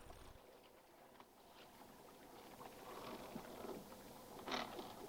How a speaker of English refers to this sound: The men continue to scour the cliffs as the boat rocks from side to side.